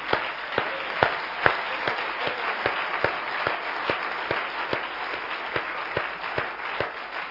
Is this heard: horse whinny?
no